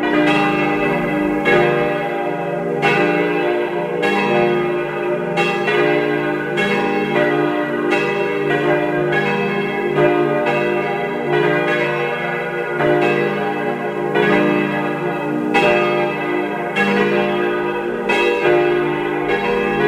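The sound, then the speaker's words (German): The bells of the parish church of Saints Stephen and Anna in Karres, Tyrol, peal continuously and loudly at 12 noon, several bells overlapping in a steady rolling rhythm with rich ringing overtones, no voices present. “Es ist 12 Uhr. Sie hören die Glocken der Pfarrkirche zu den Heiligen Stephanus und Anna in Karres in Tirol.”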